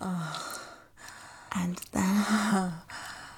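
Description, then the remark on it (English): A voice imitates a sharp, breathy gasp, followed by a longer voiced exhale that sounds like a low groan, with soft breathing before and after. “And then, you gasp with a sharp, clear breath.”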